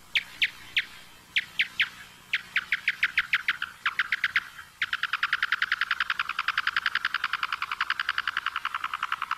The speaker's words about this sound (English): Yeah, so what we're listening to are calls produced by the big brown bat, the local species, and it's going after insect prey.